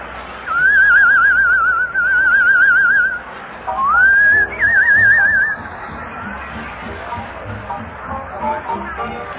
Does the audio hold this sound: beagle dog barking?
no